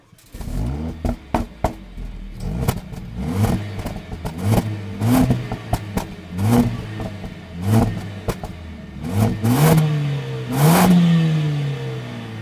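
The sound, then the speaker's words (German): A Mercedes-AMG CLA 45 S 4matic Plus Coupé engine revving repeatedly in short bursts, its pitch rising and falling, punctuated by sharp pops and crackles from the exhaust, ending in a longer rising rev. “Und dieser Sound gehört zum Mercedes AMG CLA 45S 4matic Plus Coupé.”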